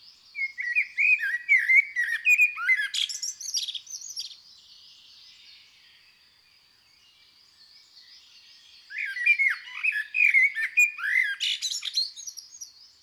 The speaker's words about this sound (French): Le merle noir est mélodieux sur un rythme assez lent.